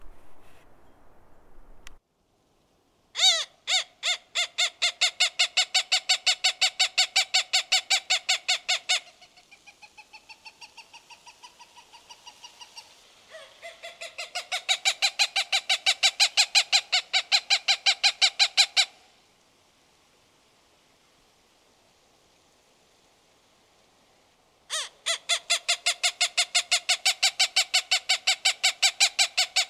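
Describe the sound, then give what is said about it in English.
A Cooper's hawk gives long bouts of rapid, harsh cackling calls, each note repeated in quick even succession. The calls are loud, broken by short pauses, with no talking. “And now for a word from a Cooper's hawk.”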